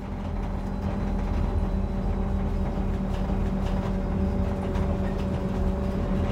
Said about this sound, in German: Man kann es ein bisschen erahnen, du bist also mit dem Bus nach Bellersen gekommen.